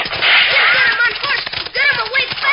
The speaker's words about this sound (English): Spurring their horses on, Red Ryder and Little Beaver are riding hard, trying to catch the cattle thief.